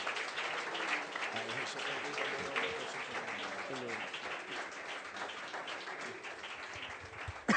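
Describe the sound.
A large crowd claps steadily for several seconds, a dense and loud wash of applause with some indistinct voices mixed in underneath.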